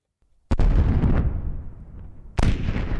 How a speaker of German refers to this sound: Kennt ihr das? Es ist das Geräusch von einem Jet, der die Schallmauer durchbricht. Und tatsächlich, habe ich früher oft gehört, höre ich nicht mehr.